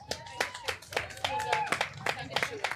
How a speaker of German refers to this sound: Ich würde sagen, bitte nochmal Applaus